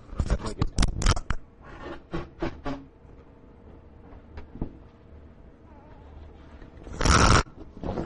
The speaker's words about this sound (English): I didn't want to have it record me blowing my nose, but it records the mic falling on the ground. Oh, well.